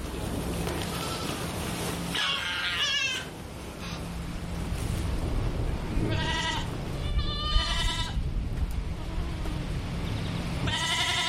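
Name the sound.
young goats bleating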